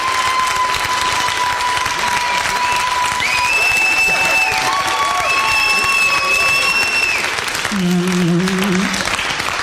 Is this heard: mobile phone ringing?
no